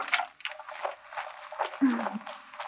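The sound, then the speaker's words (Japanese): Soft squishy rubbing of shampoo lathered in hair during a repeated wash, lifting out dust and oil, a steady wet scrubbing texture with faint sloshing, continuing beneath quiet speech. “泡立ちが違うね。ほこりとか油分とかしっかり取れてるよ。”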